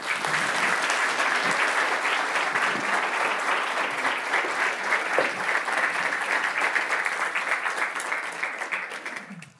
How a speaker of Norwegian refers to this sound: Så gi henne en varm applaus.